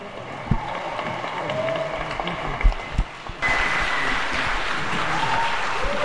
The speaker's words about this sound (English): So if everybody could give a warm and hearty round of applause to begin our conference for Starhawk.